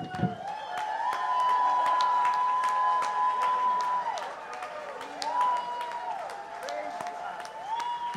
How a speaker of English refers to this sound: Okay, is God good? Yeah. Then lift him up. Give him a shout of praise. Clap your hands.